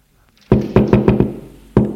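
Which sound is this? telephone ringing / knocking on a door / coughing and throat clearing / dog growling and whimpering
knocking on a door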